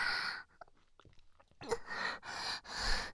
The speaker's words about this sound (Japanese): おっぱいもあるんでちゅよ。いっぱいチューチューしていいんでちゅ。ママのミルクおいちいでちか。